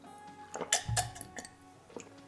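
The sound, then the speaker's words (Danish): Water being poured into a glass, a short splashy burst mixed with a few light glassy clinks and taps, with no one speaking. “Og du glæder dig til at tage et glas vand, og det kunne lyde sådan her.”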